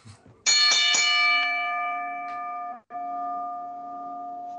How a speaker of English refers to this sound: And ring the bell.